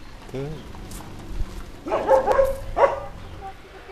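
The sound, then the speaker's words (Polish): A dog barks behind a fence in a short burst of several rough barks, then one more after a brief pause, over faint background murmur and a higher yip early on. “Wie pan, taki pies chodzi, także mowy nie ma, żeby wejść.”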